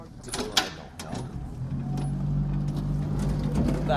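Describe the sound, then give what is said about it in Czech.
A few knocks and scrapes as the first boat is shoved off onto the water at Orlík to collect litter along the banks, then a low, steady motor drone settles in and hums on as it moves away. “Tak, no a teďka nám vlastně odjíždí první loď a budeme vyrážet na vodu, budeme sbírat odpadky po celých březích Orlíka, co tady jsou.”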